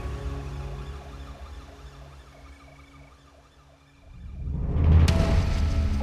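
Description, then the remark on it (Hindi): An ambulance siren wails in a steady rising-and-falling pattern over a low engine rumble, then a loud surge of rushing vehicle noise swells up and drowns it out. No one speaks. The ambulance takes a body from a car accident to hospital. “उसे वहाँ रोककर और वो लाश को उठाकर एम्बुलेंस में डलवा के हॉस्पिटल भेज दिया गया।”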